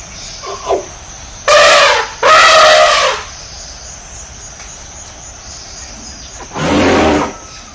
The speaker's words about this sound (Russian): Подумай и покажи, где тигр? Замечательно, это тигр.